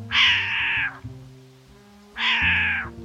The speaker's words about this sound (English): I'm glad I went back. I just saw a short-eared owl swoop by and make the cat noise I heard earlier.